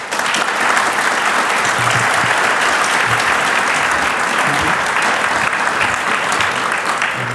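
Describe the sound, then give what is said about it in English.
Sustained, dense audience applause welcoming presenters on stage, loud and steady throughout, a broad wash of many hands clapping without pause for about seven seconds. “So please welcome them with a warm round of applause.”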